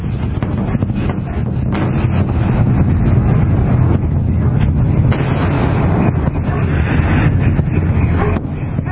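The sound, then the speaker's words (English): Deep, heavy booms like sonic booms from a meteor shower and its aftershocks roll over a continuous loud rumble, with several sharper thuds breaking through at irregular intervals and no voices. “And then obviously, and you hear more from the meteor shower coming in behind it, other aftershocks.”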